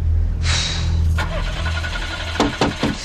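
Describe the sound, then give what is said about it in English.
A red Ford's starter grinds and whines in the rain in an empty parking lot while a low engine rumble churns underneath, the motor never quite catching, followed by a few sharp thumps near the end. “tries to start the Ford.”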